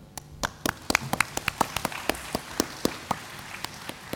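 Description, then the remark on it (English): Scattered applause from a small church audience clapping for themselves, with crisp individual claps rising and falling at a steady, uneven pace, moderately loud, with no talking. “我也希望在当中的你们给自己一些掌声。 And amongst us, let's clap together.”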